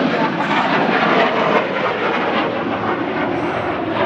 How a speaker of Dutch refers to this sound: Zo agressief. Dat is een straaljagers. Zit dat in de microfoon?